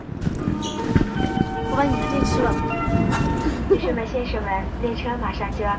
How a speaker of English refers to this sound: The doors close. Next stop, Beijing. From the Shanghai to Beijing bullet train